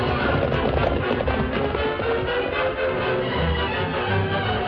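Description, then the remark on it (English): Hooves of horses, Silver and Scout, gallop hard and fast as they carry their riders down from a cliff, a loud, steady rush of pounding beats that carries on without a break. No voices are heard. “As Silver and Scout bore their riders down from the cliff”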